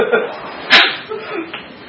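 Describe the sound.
One sharp, bright whip crack snaps out midway, brief and fairly loud, with low voices murmuring before and after it.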